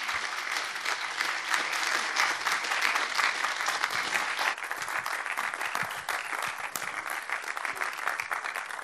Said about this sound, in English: Let's give another huge round of applause to the panelists. Thank you so much, all of you. You're incredible.